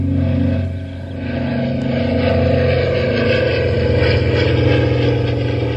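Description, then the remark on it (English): A small propeller signal plane trailing a streamer drones steadily overhead on a still, windless day, its engine a loud, continuous low hum with a rough buzzing edge that swells slightly and holds for several seconds. “Take a listen, I mean. Yeah. I mean, take a look and a listen. I mean, there's the signal plane.”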